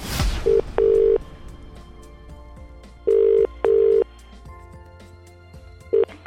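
Telephone ringback on a call being placed by the Free Radio station to a listener: steady, low-pitched buzzing tones in a double-ring pattern, repeating twice, with short partial tones at the start and end. No one speaks.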